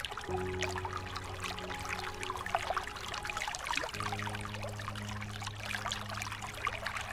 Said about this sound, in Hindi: नौका का लंगर उठा और वह फुंफकारती हुई नदी की लहरों से जूझने लगी।